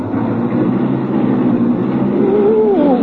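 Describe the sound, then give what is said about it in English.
A loud, rumbling car engine is started and runs steadily, then its pitch climbs near the end as it revs and the car accelerates to 50 miles an hour without being shifted into high gear. No one speaks. “Step on the brake? To start my car?”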